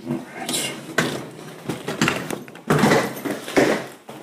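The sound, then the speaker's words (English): Heavy fire doors in England being pushed open and swinging shut, with several loud clunks and thuds mixed with rustling and shuffling of someone carrying many things through. “Goddamn fire doors in England.”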